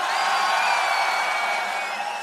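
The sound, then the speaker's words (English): A huge festival crowd at Tomorrowland screams and cheers in one continuous, loud roar, with high shrill whistles and shrieks rising above the wash of voices and no single speaker standing out. “All the old school of Tomorrowland, let me hear you scream!”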